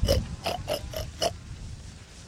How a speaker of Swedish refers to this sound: Griskultingarna buffas och knuffas.